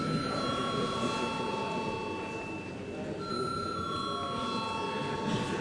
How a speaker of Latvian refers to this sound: Paldies, lūdzu zvanu.